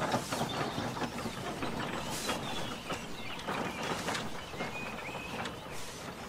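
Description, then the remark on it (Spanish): A cart sets off and rolls along with a steady rumbling, rattling noise as travellers depart. Irregular clacks and creaks break the rumble as it moves, with faint chirps mixed in; no one speaks. “Los demás las saludan conjuntamente y el carro se pone en movimiento.”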